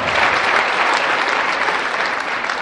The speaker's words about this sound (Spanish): Hombre, el aplauso para los matrimonios, por favor. Por favor, el aplauso.